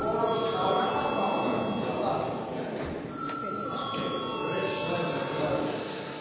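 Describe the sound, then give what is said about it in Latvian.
A steady electric bell rings continuously for several seconds in the chamber of the Latvian parliament, calling deputies to vote, a bright, sustained metallic tone over a low background murmur of voices and shuffling. “Lūdzu zvanu!”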